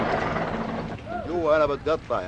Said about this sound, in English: He leans out of the cab of his bulldozer, shuts off the engine to talk, sounding disgusted and sad.